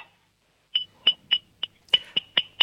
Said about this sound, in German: Und dann klimperst du mal an das Trinkglas mit dem Löffel.